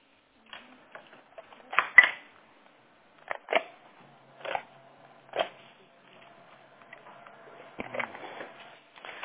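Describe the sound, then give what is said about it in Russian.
A printer runs, printing documents, its mechanism clacking and whirring in uneven bursts, with paper-feed clicks and a steady motor hum building toward the end. “Печатаю? Да, все распечатываем.”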